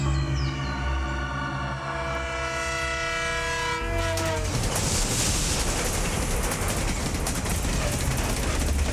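An elevated railway train roars past. A loud, sustained horn blares for several seconds, then gives way to a heavy, steady rumble and metallic rattle of cars passing overhead.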